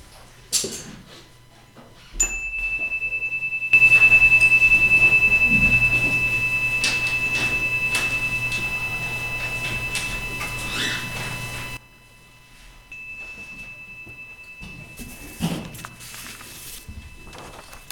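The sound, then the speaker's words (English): A chime rings out with a clear, high, sustained tone that lingers for several seconds, marking the start of a moment of silence; a second chime marks its end after a stretch of quiet, with faint ticking and shuffling underneath. “We'll have a moment of silence now, bracketed by a chime at the beginning and at the end.”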